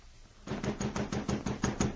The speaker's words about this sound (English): Well, along about midnight, I heard someone pounding on the door. I got up out of bed and went to see who it was.